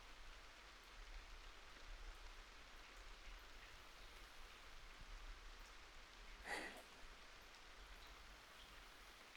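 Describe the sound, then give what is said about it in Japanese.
Steady rain falls throughout, a soft, even hiss of drops spread wide with no voices, broken around the middle by one brief brighter splash or patter before settling back into the wash. “私、雨の日が好きです。あなたと出かけられるし、いろいろな音が聞こえるから。”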